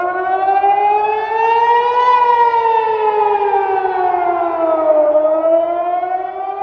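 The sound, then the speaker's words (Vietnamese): An air raid siren sounding across Israel during an Iranian ballistic missile attack, as people take shelter in bomb shelters. It wails steadily and loudly, its harmonic-rich tone slowly rising, then sinking, then climbing again in a long continuous sweep, with no voices. “Báo động vang lên khắp Israel, tiếng nổ vang lên ở Jerusalem, thung lũng sông Jordan và các khu vực khác khi người dân trú ẩn trong hầm trú bom.”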